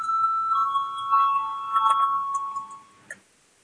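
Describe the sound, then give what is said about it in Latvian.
A sustained electric voting bell in a parliament rings steadily for about three seconds with a bright, buzzing tone to call a vote, then cuts off, followed by a brief click and quiet ambience. “Lūdzu zvanu, balsosim par 129. Ministra kabineta priekšlikumu.”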